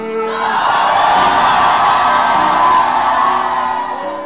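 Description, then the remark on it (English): A large crowd screams "glory" together in one sustained, loud roar of many voices, holding strong for about four seconds before beginning to fade slightly. “Right where you are sitting, I want you to scream, glory!”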